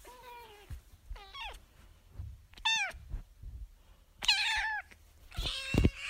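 A domestic cat meows several times in a row, clear, each call rising and bending in pitch, with brief quiet gaps and soft low rumbling in the background.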